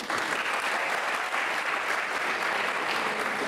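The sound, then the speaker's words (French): A crowd claps steadily for a person who answered a question correctly, a dense crackling wash of many hands that stays loud and even throughout, with no pauses or swells and no voices standing out. “Bravo, voilà, on l'applaudissait.”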